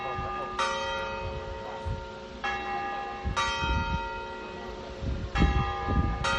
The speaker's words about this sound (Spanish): Llevaba tiempo averiado. Sus manecillas se habían congelado justo antes de la pandemia, después de más de un siglo funcionando. Más de un año después, las campanas del reloj del Ayuntamiento de A Coruña han vuelto a sonar así de imponentes.